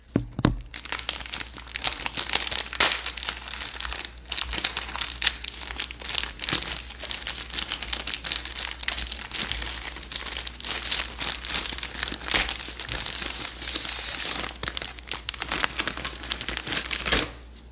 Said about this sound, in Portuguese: Vai dormindo aí enquanto eu abro aqui o macarrão. Só um momento.